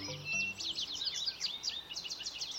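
Several songbirds sing a dawn chorus at once, a dense, overlapping chorus of high, rapid chirps and warbling phrases, steady, with faint low tones briefly underneath at the start.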